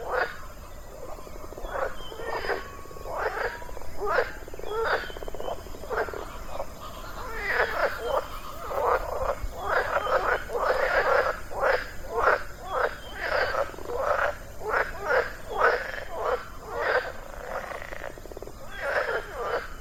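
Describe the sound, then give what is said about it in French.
A toad croaks over and over in a steady, rapid series of rasping calls, moderately loud, continuing for the whole stretch with no one talking. “Mais j'ai cru entendre un... C'est quoi ? Un crapaud ?”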